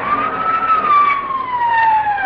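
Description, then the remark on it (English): A fire engine siren sound effect, made by a sound effects man, wails steadily, its pitch rising slightly and then slowly sliding downward, loud and continuous over a rough rumbling background, with no one talking. “He's a three-alarm fire and a fire chief, too.”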